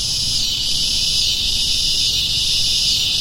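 A dense, continuous buzzing drone of cicadas fills the air, steady and loud with slight pulsing swells, over a low rumble of background noise.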